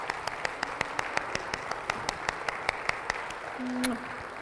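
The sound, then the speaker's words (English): An audience applauds the standing fathers, grandfathers and stepfathers on Father's Day, a dense wash of clapping with sharp individual claps landing in a fairly regular rhythm throughout, and a brief vocal cheer rises near the end. “And I want to applaud you all.”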